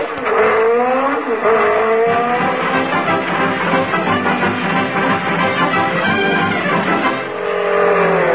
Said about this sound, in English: Hey, Mac, did you see a jeep go past here full of books?